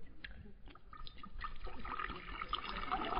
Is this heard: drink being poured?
yes